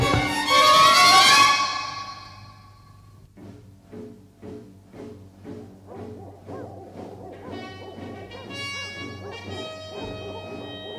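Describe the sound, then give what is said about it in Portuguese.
Hunting dogs barking: a loud, drawn-out howl opens, then a steady run of about half a dozen rhythmic barks over a low sustained drone, ending in higher, overlapping yelps and tones. “Não pode ser, mas parecem latidos de cães de caça.”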